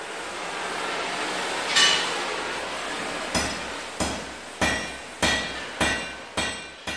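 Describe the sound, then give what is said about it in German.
A hammer strikes iron while forging iron parts in a blacksmith's forge in Carinthia, Austria: one ringing blow, a short pause, then about seven steady, evenly spaced metallic strikes, clear over a faint background hum. “Wenn er nicht nach Kärnten braust, um mit dem Sohn Eisenteile zu schmieden”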